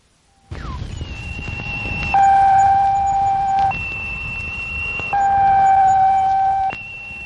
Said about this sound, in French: Ce bip-bip, c'est la voix de la petite sœur de la Terre. C'est la voix de la première planète fabriquée par les hommes. C'est la voix de la fusée cosmique lancée par les Russes le deuxième jour de l'année 1959.